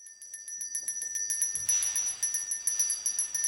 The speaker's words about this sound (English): There's a familiar sound this time of year. The bell ringers are out, the red kettles are filling up, and one of the most iconic fundraising campaigns in America is underway.